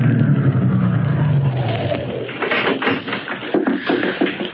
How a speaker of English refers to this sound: One day, back in June of 22, a big car drove up to the only entrance. In the back seat of the limousine was William Marsden, wealthy lawyer and executor of the Greystone Estate, and he had come to inspect the ground.